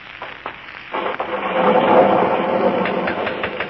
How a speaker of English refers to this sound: Listen to that thunder.